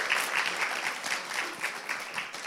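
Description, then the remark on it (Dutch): A short burst of applause from a small group for the speaker's assistants, steady rapid clapping at a moderate level with no voices standing out. “Even applaus voor mijn assistenten.”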